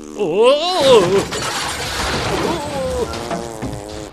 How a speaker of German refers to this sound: Verdammt, ich hab mein Radio umgeschmissen. Jetzt kann ich gar keine Antenne Kuh mehr hören.